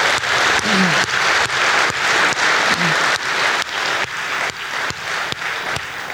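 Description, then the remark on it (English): Sustained audience applause at a conference for the men who volunteer their time to host it, a dense steady wash of clapping hands lasting throughout, with a few brief low voices or whoops rising faintly from the crowd. “And by the way, while we're here, let's give a big round of applause to all the men who dedicate, volunteer their time to host this conference.”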